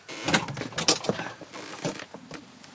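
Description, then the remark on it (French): A door is opened: a latch clicks, then a series of sharp knocks and rattling clunks as it swings, with no voices. It is a false door in a windowless triangular room, opening onto a wall. “Elle donne sur quoi, cette porte?”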